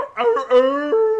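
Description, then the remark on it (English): The dog Trapper howls, joining in with a ditty, a loud, drawn-out tone that rises, dips briefly, then holds steady for about a second. No one talks over it. “See if I get my dog to join in.”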